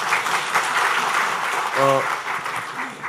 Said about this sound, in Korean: 연합회 우리 여호수아 중창단 박수 받았는데, 또 우리 홍익교회 연합 찬양대를 위해서도 아까 너무 씩씩하게 찬양하시는데 크게 박수 한번 드리겠습니다.